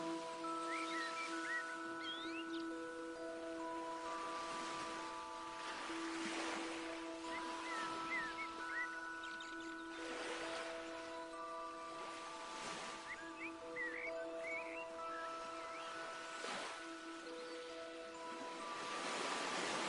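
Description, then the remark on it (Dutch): Sea waves roll in and wash ashore at the seaside under a warm sun, in a steady rhythm, each swell rising and fading every few seconds, over a soft bed of sustained, calm musical tones. No one speaks. “En je geniet van de aangename sfeer, de warme zon en de rust aan zee.”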